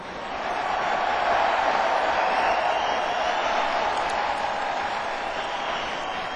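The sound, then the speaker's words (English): A crowd breaks into sustained applause mixed with cheering for the horn players, rising quickly to a loud, dense wash of clapping and voices that holds steady for several seconds without anyone speaking. “Round of applause for the horns over here.”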